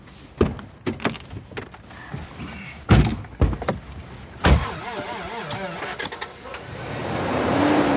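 Thuds of a car door shutting, with a few sharp knocks and clunks, then an engine starts and the car pulls away, its rumble swelling as it moves off.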